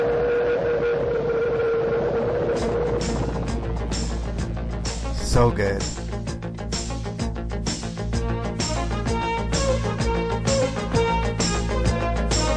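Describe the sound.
The 1980s TV series Airwolf theme music opens with a sustained synth drone, then a driving, rhythmic beat of sharp percussive hits kicks in and continues loudly; a voice briefly speaks over it.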